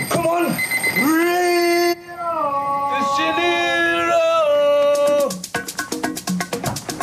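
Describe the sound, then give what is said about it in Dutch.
A long, wavering, howl-like tone with shifting pitch gives way to a loud alarm clock bell ringing in a rapid, steady clatter for the final couple of seconds, waking two men. “Je ziet hier een, twee gasten die worden wakker. Gewekt door de wekker, want ze gaan naar Rio.”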